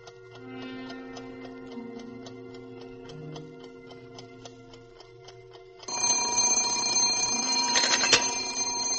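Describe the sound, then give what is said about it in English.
An alarm clock ticks steadily and evenly for several seconds, then its bell suddenly bursts into loud, continuous ringing. No one speaks. “Oh, I'm sorry, operator. It's my alarm clock.”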